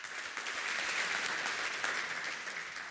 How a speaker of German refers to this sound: Einen großen Applaus für Simone.